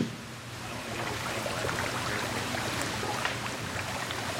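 Steady churning water with light, scattered splashes as fish food is tossed through the hatch into an aquaponics tank holding about 500 rainbow trout in a greenhouse, a continuous wash of sound at moderate volume with no voices.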